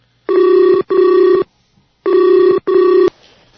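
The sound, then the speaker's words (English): A telephone rings in two double bursts while a conference call is being set up, each a pair of steady electronic tones, loud, separated by a short pause, with no one speaking. “Conference call. Create a conference call.”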